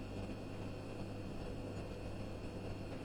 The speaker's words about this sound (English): I pause, holding my breath to listen. Nothing but the quiet hum of the fridge.